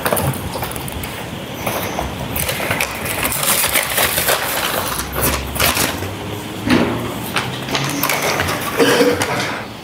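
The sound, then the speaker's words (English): Small glass fragments in wax paper clink and rattle as they are handled and shuffled into a crinkling evidence bag, a steady stretch of jingling and rustling with no talking. “If you can rebag all that, we'll move to the next item.”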